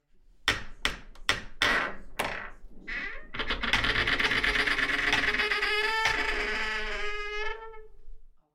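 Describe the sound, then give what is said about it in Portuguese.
Five sharp, rapid knocks lead into a long, drawn-out creak as a door slowly swings open, its groaning pitch wavering for several seconds before stopping. No voices are heard. “Diante dele, uma porta se abre devagarinho.”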